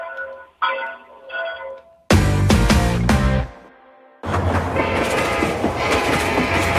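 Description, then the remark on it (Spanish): A few short tonal signals give way to a loud train blasting past, its heavy rumble and clatter on the rails filling the second half without any talking. “Dicen que hay trenes que solo pasan una vez en la vida.”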